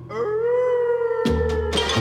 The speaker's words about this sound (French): Au moindre coup dans une armoire, on entend claquer les mâchoires et les chiens hurlent à la mort.